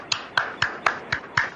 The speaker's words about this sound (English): Applauding for myself.